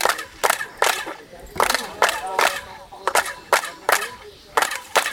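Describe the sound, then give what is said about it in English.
A tour group claps in front of the famous main pyramid at ancient ruins: a string of sharp handclaps at uneven intervals, each followed by a brief, pitched chirping echo reflected off the pyramid's steps that rings out and fades before the next clap. “When you clap your hands, what you get is you get a chirping sound.”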